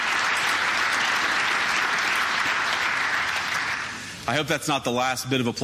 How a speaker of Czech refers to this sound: Doufám, že to není poslední potlesk, kterého se mi dostane.